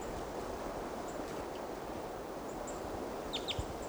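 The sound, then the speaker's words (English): A male type 2 crossbill, right above a camp at about 8 o'clock, gives a few short, sharp downslurred 'kip' calls. The clearest comes as a quick pair near the end, over a steady rushing background hiss. “Start recording about 8 o'clock now, and there's another type 2 male right above the camp. And he gave type 2 calls on the way in.”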